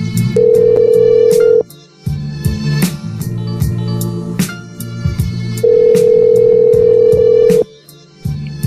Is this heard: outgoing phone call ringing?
yes